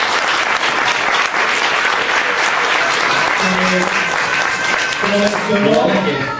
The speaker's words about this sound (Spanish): por un aplauso, porque es un tremendo libro.